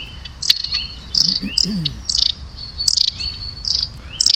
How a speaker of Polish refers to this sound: No to puścimy raniuszkę chociaż z telefonu. Ojej, nie to. Żona dzwoni. O, to. To jest raniuszek.